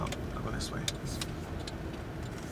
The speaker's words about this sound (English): We're in his car, rolling by the low-slung shops this area is known for.